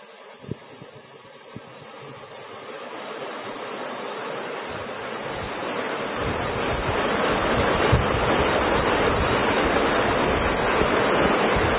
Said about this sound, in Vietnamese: Ở các vị thiền long là mưa lắm quá, mưa to quá giảng không, mọi người không nghe thấy, thôi giảm bớt đi.